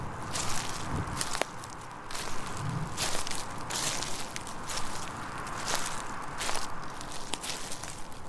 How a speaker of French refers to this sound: Allez, je vais sortir de la voiture et arpenter un peu le secteur. Ça me réchauffera peut-être.